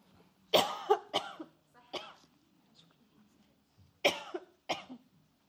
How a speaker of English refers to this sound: I don't want to cough in your face. Sorry.